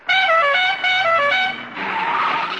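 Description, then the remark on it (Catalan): A short old jingle of the Barcelona radio station Ràdio Joventut, in its historic Via Augusta version: bright, harmonically rich tones in three quick rhythmic phrases, followed by a loud burst of broad hissing noise, with no talking. “Bueno, això és, em posa la pell de gallina, això és el primer jingle que jo vaig escoltar a la ràdio.”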